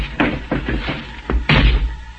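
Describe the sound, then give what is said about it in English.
A few dull thumps and knocks lead up to a heavier car door slam near the end, with no voices over the rumble. “Slammed the door shut, got in alongside of me.”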